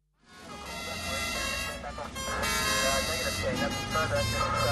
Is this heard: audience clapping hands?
no